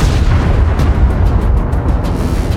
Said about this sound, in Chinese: 紧随其后的第二辆战车也没能躲过一劫，接连两声惊天动地的爆炸过后，两辆战车瞬间被炸成了扭曲的废铁。